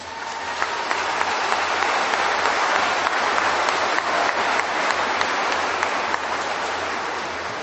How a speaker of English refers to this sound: And as I look out over this crowd today, please turn to yourselves and applaud yourselves for doing just that.